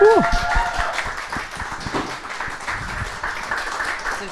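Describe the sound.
An audience applauds steadily for about four seconds, a dense crackle of many hands, with a short rising whistle-like tone at the very start and some voices mixed in.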